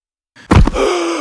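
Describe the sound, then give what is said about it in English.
A man collapses with a sudden heavy rush of breath and a low thump, then a long, strained gasp that trails on. No words are spoken. “He collapses, gasping.”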